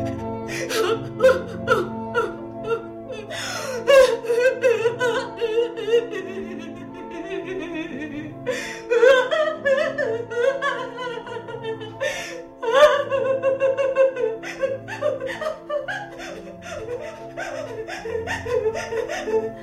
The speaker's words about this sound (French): En fait, ça amasse l'énergie parce que il se remplit d'air en fait. C'est rempli d'air entre chaque pleur. C'est pas un pleur qui se déverse.